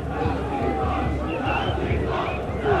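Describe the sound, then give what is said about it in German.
A large crowd of Chemie Leipzig football fans chants "Nazis raus" loudly in unison in reply to Chemnitz fans, a dense, continuous roar of many voices shouting together for the whole stretch. “Die Leipziger Fans entgegnen mit Nazis rauszurufen.”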